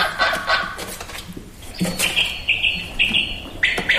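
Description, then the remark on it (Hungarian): A quail calling with a series of sharp, repeated whistled notes, then a longer clear call near the end, fairly loud with no one talking. “Ez a fűr. Így van.”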